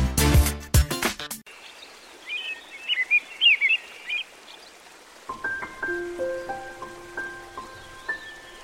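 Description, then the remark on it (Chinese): Birds chirp and sing in a lively, melodic pattern in the early morning, over a soft background hiss like light rain, followed by clear sustained tonal notes forming a simple melody, after a brief loud burst at the start. “鸟儿又奏鸣起美妙的旋律，叶儿又在徐徐晨风中摇曳舞动，徐徐晨光又开始照耀着天籁中的万事万物。”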